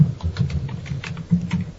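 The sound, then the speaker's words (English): Rapid, irregular clicking of keys on a computer keyboard, a steady flurry of light taps over a low background hum, with no one speaking. “It's keyboard nom nom nom nom nom.”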